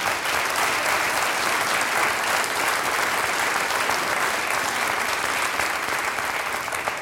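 Sustained applause from an audience, a dense steady clatter of many hands clapping at even loudness throughout, with no voices standing out.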